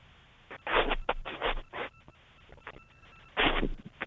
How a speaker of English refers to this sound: Either Lucia is a fax machine or we're having a phone problem.